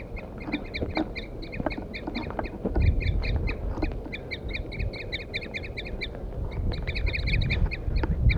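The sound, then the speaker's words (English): Wild birds, mostly males, call excitedly in response to a recorded 4-3 song played from a stump, in rapid, overlapping series of sharp, high chirping notes that keep going throughout, over a steady low rumble with no talking. “The recording, I had left 4-3 on the stump, and I got the wild birds now attacking him. Wild male mostly.”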